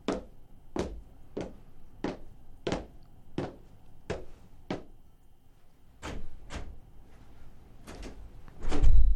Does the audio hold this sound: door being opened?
yes